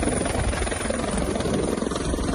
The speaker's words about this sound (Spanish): Varios helicópteros, como este que escuchas, han tratado de apagar las llamas que surgían justo en una zona montañosa entre el mar y una zona de urbanizaciones.